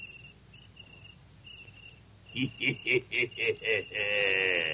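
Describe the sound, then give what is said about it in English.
Faint, high cricket chirps come in short repeated bursts for a couple of seconds, then loud rhythmic chuckling laughter breaks in and dominates to the end. “I hope one isn't a cricket.”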